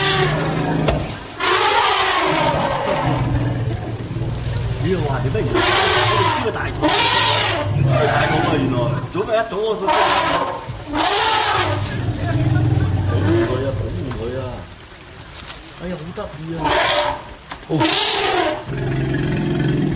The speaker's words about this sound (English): Isn't that amazing? So it goes on like that for a couple minutes with elephants continuing to gather and trumpet out. It's incredible.